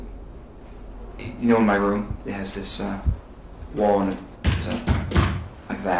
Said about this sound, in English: For the record, the witness thumped on the witness stand with his fist. And you hit the witness stand like three times or so. Was that three noises that you heard? I believe it was three noises. It was thumping. It sounded like three thumps.